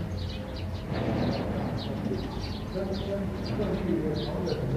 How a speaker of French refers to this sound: Plus le cuicui des oiseaux.